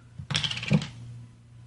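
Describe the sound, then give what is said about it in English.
Suntory Toki Japanese whiskey pours into a glass in a brief half-second burst of quick, clinking glugs with a bright splashy edge, fading into a low steady hum. No one speaks. “I'm pouring myself a glass of whiskey.”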